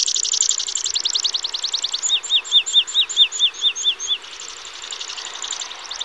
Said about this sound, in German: Als Piepen würde ich das hämmernd ansteigende Trillern, mit dem er bei den Spaziergängerinnen und Spaziergängern jene Menge Aufmerksamkeit erzeugt, jedenfalls nicht bezeichnen.